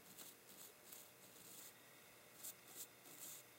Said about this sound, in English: And we'll just do some brushing inside here.